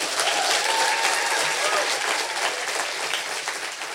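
Steady, dense applause from an audience welcoming the day's guest fills the whole stretch, loud, a continuous crackle of many hands clapping with faint crowd murmur beneath.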